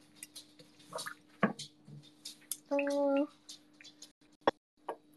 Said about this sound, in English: Yeah, you can hear it by the water bouncing around, like it's not a very big bowl. Down the drain it goes.